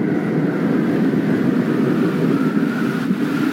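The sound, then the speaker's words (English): A steady, deep rumble of thunder rolls on without a break, loud and broad with a low roar, and no voices over it, part of the opening buildup of lightning and thunder in the film Rambo: Last Blood. “Here we get this little buildup with the sound of the lightning and the thunder.”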